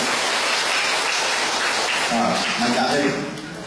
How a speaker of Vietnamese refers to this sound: Chúng ta cho chị một tràng pháo tay lên.